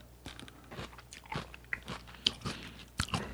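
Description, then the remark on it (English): Crisp, wet crunching and chewing of kimchi, with a series of irregular bites and sharp crackles over about three seconds, fairly quiet overall with a few louder crunches near the end. “So it tastes nothing like fresh kimchi.”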